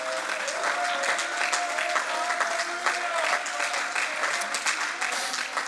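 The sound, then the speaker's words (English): An audience claps steadily in praise of God, a dense continuous wash of many hands applauding together, with a faint sustained tone ringing underneath throughout. “Oh, you ought to clap your hands, and somebody ought to magnify the Lord.”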